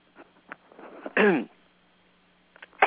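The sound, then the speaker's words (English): A loud, harsh cough from someone with a cold bursts out after a few soft throaty noises, followed by a short pause and the start of another cough right at the end. “I'm so sorry to cough on you, honey.”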